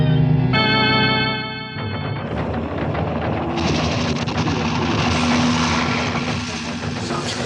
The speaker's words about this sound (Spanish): En el campamento, todos descubren la llegada del helicóptero que se mantiene volando en un mismo sitio, a una altura aproximada de 100 metros. Los nativos se muestran temerosos, señalando hacia el extraño aparato que vuela como pájaro.